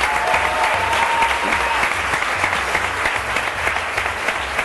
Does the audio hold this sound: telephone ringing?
no